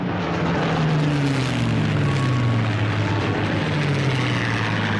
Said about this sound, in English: Overhead, thousands of Allied planes roared.